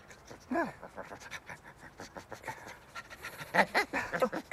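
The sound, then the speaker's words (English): A dog pants rapidly and wetly while clinging to a man's leg, short breathy huffs coming in quick uneven bursts that grow louder toward the end, with no talking. “He starts shaking and looks down to see Camilla's dog attached to his leg.”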